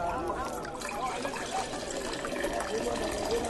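Water pours steadily into a stone jar for a few seconds, a continuous splashing gurgle whose pitch shifts slightly as the vessel fills; servants are filling six stone jars, each holding 80 to 120 litres, to the brim.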